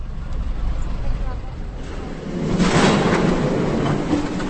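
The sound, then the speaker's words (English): Trolley buses roll past in Teplice, North Bohemia, in a steady, broad rumble of street traffic, with a low hum underneath that swells louder about halfway through and then holds. “The sound of the trolley buses brings back fond memories of an idle summer in North Bohemia.”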